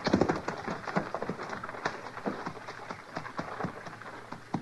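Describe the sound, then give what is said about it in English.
Horses' hooves clomp and scuff over the ground at a quick, uneven pace as the horses are taken off the trail, moderately loud, with a steady murmur of movement underneath and no voices. “I don't know, but let's get these horses off the trail.”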